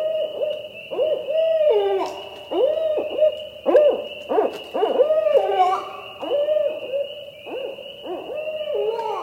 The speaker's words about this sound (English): Then there's a female hoot variation, which has been heard given by females in flight while chasing other barred owls on their territory.